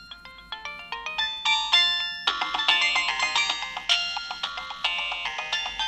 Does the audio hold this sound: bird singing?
no